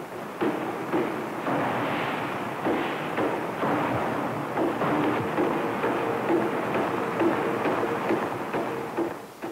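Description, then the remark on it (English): A forging hammer with plain flat dies pounds a metal billet in Smith forging, making a tongue hold on the billet to prepare it for a closed die hammer. Heavy, irregular blows are set against a loud, constant industrial roar with a faint hum beneath. “The method is called Smith forging and is here being used to make a tongue hold on this billet to prepare it for a closed die hammer.”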